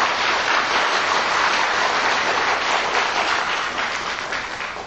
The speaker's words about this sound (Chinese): 我们现在在以最沉静的心呢，我们恭请师父开始，我们鼓掌，谢谢。